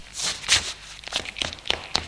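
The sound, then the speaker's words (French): A person runs through a garage: quick, even footsteps hit the ground about seven times in two seconds, a brisk running pace with crisp scuffing impacts at moderate volume and no voices. “Peur, je me mets à courir moi aussi.”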